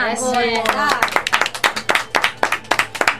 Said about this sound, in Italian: Facciamo anche un applauso?